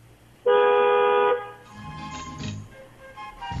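car horn honking

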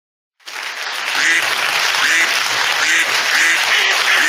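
duck quacking

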